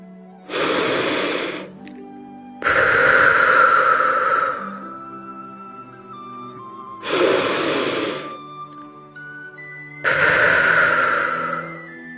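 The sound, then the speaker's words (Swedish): Two slow, deep breathing cycles during a relaxation exercise, each an airy inhale through the nose followed by a longer, breathy exhale through an open mouth, clear over a soft, sustained musical drone. “Andas först ett par långa djupa andetag in genom näsan och ut genom öppen mun.”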